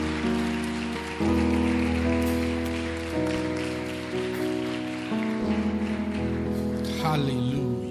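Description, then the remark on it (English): An audience at a religious service claps steadily for people as they march to a sister holding a follow-me sign, in a dense, crackling wash, with sustained keyboard or organ chords changing underneath and some voices mixed in. “Clap for them as they go.”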